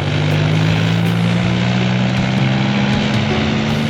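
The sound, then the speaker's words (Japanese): A loud, steady helicopter rotor and engine drone with a strong low harmonic hum, continuous throughout with no voices, as a helicopter gets ready to take off. “ヘリが出るぞ、乗れ。”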